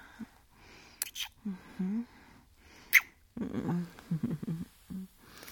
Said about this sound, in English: Oh, that little growl was so sexy.